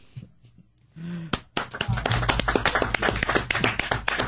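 A lone person claps rapidly and unevenly, a string of sharp, loud slaps following a couple of soft taps and a brief low hum.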